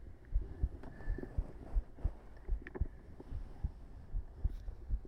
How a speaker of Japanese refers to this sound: その鼓動音が少し早くなる気がするんですよね、今よりも。